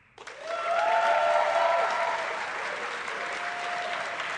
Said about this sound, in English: By round of applause, we're going to give you the two choices. Applaud for the one you think is most worthy of a Sacred Cow discussion on Film Spotting.